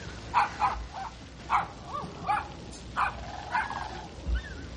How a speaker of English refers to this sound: Oh, God, that dog.